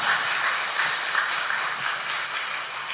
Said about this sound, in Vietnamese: Đại chúng hãy dâng cao một tràng pháo tay để chào đón Thượng Tọa.